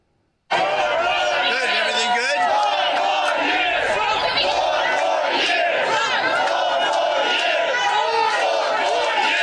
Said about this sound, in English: The crowds chanting 4 more years outside the bodega.